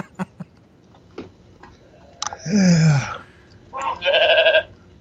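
A goat bleats twice, loud wavering cries about a second apart, the second shakier and higher, after a few faint clicks in an otherwise quiet space.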